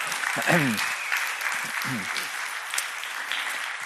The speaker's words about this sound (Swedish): Tycker jag ni ska ge dem en applåd för det.